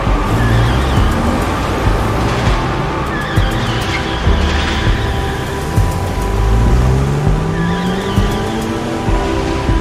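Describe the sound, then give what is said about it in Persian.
Several cars roar off at once in a hurry, engines revving loudly as tires squeal and skid in drawn-out screeches. The rumbling engines stay continuous throughout, with no voices. “سوار ماشیناتون بشین. سریع بجنبین. عجله کنین.”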